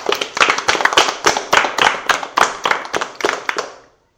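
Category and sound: crowd, applause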